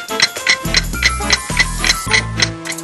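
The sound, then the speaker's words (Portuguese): An old clock ticks steadily and crisply, about four sharp ticks per second, clear over a low, droning musical tone that shifts pitch a few times, in a family home's living room decorated with plates and crystals. “O relógio antigo, os pratos na parede, muitos cristais decorando a sala.”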